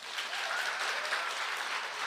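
The men in an audience clap together, on request, in a steady, dense burst of applause, many hands at once, sustained at even loudness for a couple of seconds with no talking.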